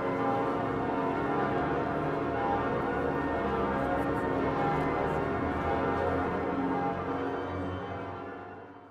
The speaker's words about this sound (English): As he declared, the bells of Notre Dame are ringing again.